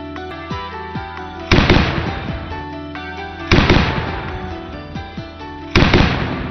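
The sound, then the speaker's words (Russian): A belt-fed DShK heavy machine gun, with a rate of fire of 600 rounds per minute, fires three loud, booming bursts about two seconds apart, each with a ringing, decaying tail, over a steady background of music. “Темп стрельбы пулемета ДШК составляет 600 выстрелов в минуту.”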